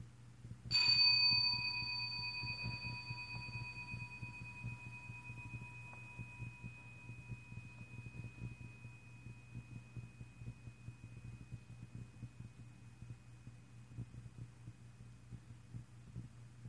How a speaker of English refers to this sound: When you hear the bell, just try to follow the ringing of the bell until you can't hear the sound anymore.